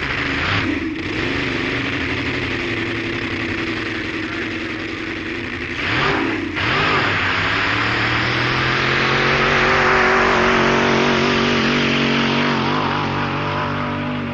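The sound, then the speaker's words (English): A supercharged Chevrolet-powered dragster engine roars loudly and continuously, with harsh revving bursts and pitch swoops as the throttle blips, then a sustained full-power howl building toward the end, on a run where the car's best time was 9.11 seconds at 171 miles per hour. “Their immaculate Dos Palmas petrol-burning dragster just ran and ran, and the blown Chevrolet-powered car turned a best time of 9.11 seconds, 171 miles per hour, which sounded like this.”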